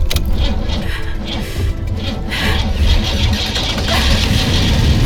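car engine starting

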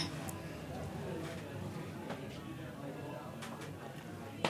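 glasses clinking

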